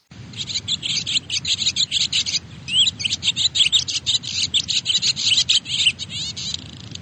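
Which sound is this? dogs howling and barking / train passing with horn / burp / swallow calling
swallow calling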